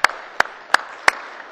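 A round of applause in the Missouri Senate welcoming the intern of the senator from Barrie: a steady wash of clapping with four sharp, evenly spaced claps standing out above it, about three per second, moderately loud, no voices.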